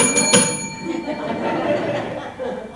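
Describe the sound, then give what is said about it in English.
A bell is struck to open a contest, giving a bright metallic clang and then a steady, shimmering ring that lingers for a few seconds over low background murmuring. “So let's get out the bell.”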